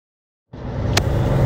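After half a second of silence, a steady low rumble of a car interior fades in and holds, with road and engine noise and a brief bright click near the end, inside a Team Uno X car during the first stage of the Vuelta Catalonia cycling race, 38.5 kilometres in.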